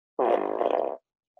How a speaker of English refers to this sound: But for just the one, you get the fart of the week.